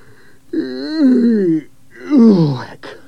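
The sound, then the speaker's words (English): A person imitates a grandfather's long, drawn-out yawn at the lunch table: two voiced vocal sweeps in a row, each rising then sliding down in pitch, fairly loud, ending with a breathy exhale. “Gary's granddad suddenly opened his mouth and yawned.”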